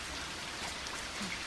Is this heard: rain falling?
yes